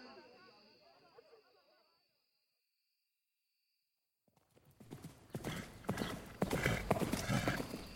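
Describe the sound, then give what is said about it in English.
After a faint ambient stretch and a brief silence, horse hooves clip-clop in quick, steady beats, rising loud against a rushing, noisy background. “Darling, get on the horse. Hurry!”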